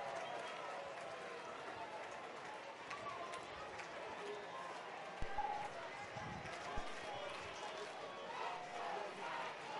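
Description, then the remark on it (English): A large crowd chants together at a baseball game on Coney Island, a steady wash of many voices at a fairly even level, with a few sharp thumps near the middle. “Crowd chanting along here on Coney Island.”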